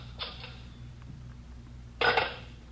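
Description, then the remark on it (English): A telephone bell gives one short, bright ring near the end, preceded by a fainter brief jingle; otherwise quiet with a low steady hum and no talking. The phone is let ring once as a signal. “You let her ring once. She knows the signal.”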